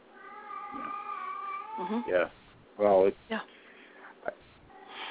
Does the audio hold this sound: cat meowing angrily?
yes